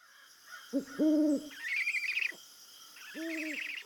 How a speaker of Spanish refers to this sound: Estos son los búhos, quienes prefieren salir a volar durante la noche.